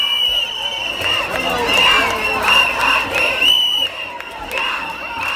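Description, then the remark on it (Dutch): A dense outdoor crowd at an annual women's march, recorded in 2018, fills the air with cheering and raised voices, a constant loud wash of many people, with bursts of shouting rising and falling throughout as women dance and sing songs together. “stond op een soort muurtje en het was eigenlijk enorm druk, dus je kon bijna nergens meer lopen.”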